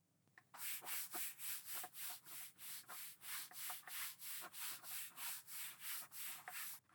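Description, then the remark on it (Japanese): Steady, rhythmic rubbing of notebook paper while studying, about twenty broad back-and-forth strokes with a bright, hissy texture, fairly loud, with no voices. “てかさ、この紙の擦れる音とか。”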